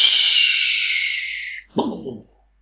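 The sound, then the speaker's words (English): A long, high whistle of an incoming artillery shell slowly drops in pitch for about a second and a half, then cuts off. A short, muffled burst of noise follows, like an impact. “An artillery shell, when it's coming your way, whistles. The further away it's going to land, the longer it whistles.”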